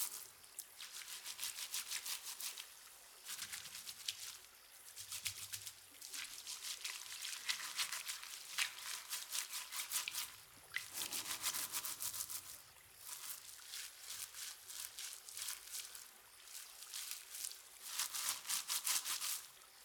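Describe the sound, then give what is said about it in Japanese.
Steady brisk scrubbing with a stiff brush, fairly loud, in rapid back-and-forth bursts with short pauses between strokes; no one speaks. “ゴシゴシゴシゴシ。”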